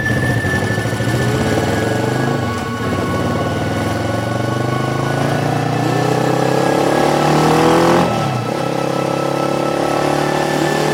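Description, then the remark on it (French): Several motorcycle engines roar and rev continuously, their pitch rising and falling as the throttles open and ease off, loud and steady throughout with no voices. “Rendez-vous donc à 8h sur le parking du cimetière d'Épinal afin de partir tous ensemble pour cette journée qui permettra de se remémorer quelques petites règles de sécurité après la trêve d'hiver, mais qui promet surtout d'être vrombissante.”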